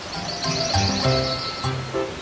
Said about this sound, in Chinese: 事实上，由于水量丰沛，孩子们不但可以在溪里头玩，还可以听见重返森林生活这些鸟儿们美丽的歌声呢。